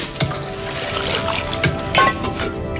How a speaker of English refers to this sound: Okay, yeah, wash your dishes.